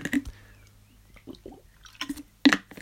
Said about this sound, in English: Water break now.